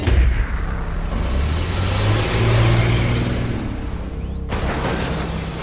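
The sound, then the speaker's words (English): A car engine revs hard and accelerates as the car speeds to ram through the side of a house, its loud rumble climbing in pitch for several seconds before cutting abruptly to a rougher, noisier roar. No one speaks. “The squealing of tires were heard on the streets as the car plowed through the side of the house.”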